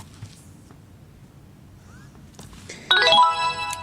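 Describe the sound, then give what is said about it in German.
A quiet, low rumble gives way near the end to a bright electronic chime, a short run of clear stepped tones sounding loudly, the signal of a device being switched on with its on-off button after a light vibration tone. “Ich muss warten, bis ein leichter Vibrierton kommt und dann dieses Signal.”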